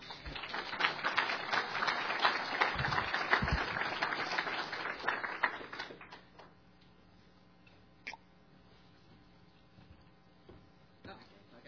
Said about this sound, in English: Give the man an applause. Finally, he made it.